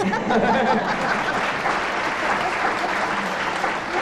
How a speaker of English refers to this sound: I think when you hear the answer to this, this is going to be worth a round of applause from the audience, because it is, in fact, a test of elementary training.